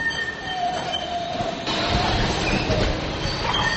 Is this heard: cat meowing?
no